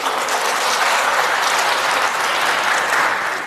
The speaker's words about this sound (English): And I think it's worth saying that both men did get applause at various points for various different ideas they were conveying.